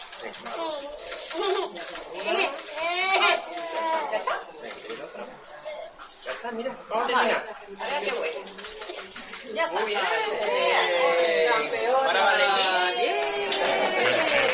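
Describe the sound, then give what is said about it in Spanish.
A young girl cries loudly, with wavering, high-pitched wails and sobs that rise and fall almost continuously, growing more intense toward the end, as she receives a vaccination at a school. “… es una niña que también ha recibido en este colegio su vacuna. Y bueno, sí, el llanto”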